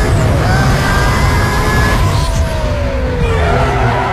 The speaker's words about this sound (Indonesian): Tiba-tiba saja mesin mobilku mendengung. Overheat. Tak kuat menanjak.